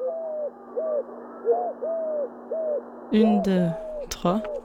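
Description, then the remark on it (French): A Eurasian collared dove coos in soft, hollow three-note phrases, repeated steadily, before a person's voice cuts in and talks over the final coos. “Au niveau du chant, la tourterelle roucoule 3 fois.”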